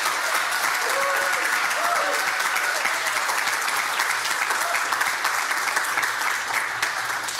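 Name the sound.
audience round of applause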